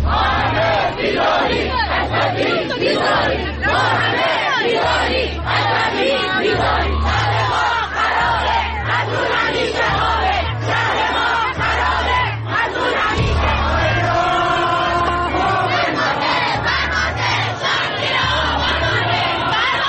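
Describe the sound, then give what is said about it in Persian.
A large crowd of angry mourners in Abadan, Iran, shouts together in loud, rhythmic chants such as "Commander, the city is under rubble," protesting the collapse of the Metropol building, voices rising in angry unison over a steady pulsing beat, dense and continuous for the whole stretch. “همزمان با این مراسم پرهزینه حکومتی بود که جمعی دیگر صدها کیلومتر دورتر مستعصل و عصبانی در آبادان سوگوار فریاد می زدند فرمانده، شهر زیر آوار مانده.”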